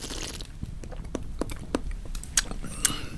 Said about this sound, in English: Everyone, even the housekeeper, was finding it hard to breathe as Richard took one final lingering sip.